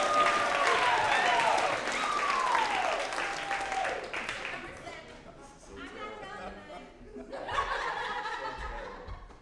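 A live audience at an event in Atlanta claps steadily in a dense, continuous wash of applause as a speaker comes down the stairs to the stage, with scattered laughter and a few whoops rising over it, the clapping swelling again near the end.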